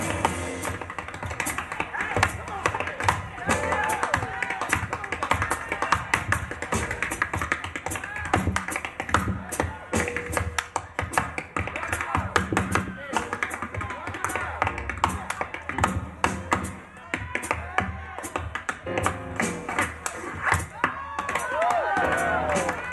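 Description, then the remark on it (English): Rapid, crisp tap-dance steps by two brothers in matching suits, taking turns, clatter on a hard floor: bursts of quick percussive taps broken by longer scraping toe drags, with some crowd noise and faint voices around them. “They take turns knocking out quick percussive taps punctuated by long, steady drags of the toe.”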